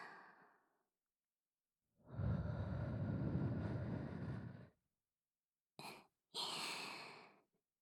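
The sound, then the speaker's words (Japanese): Soft, airy, warm breath blown into the ear: a long, steady exhale, then a brief puff and another drawn-out blow, with no talking in between. “気持ちよくしてくれるのは嬉しいけど、今はいっぱい気持ちよくなってほしいから、もう一回ふーってしてあげる。”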